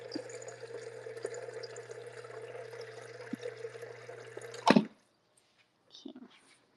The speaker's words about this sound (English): I'm gonna add some more water.